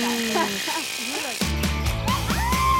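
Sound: electric razor shaving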